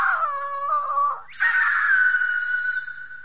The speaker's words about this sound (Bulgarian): После почнало да кръжи бавно над тях, да се спуща все по-ниско, докато най-сетне кацнала до един камък наблизо. Веднага се раздал пронизителен, жален писък.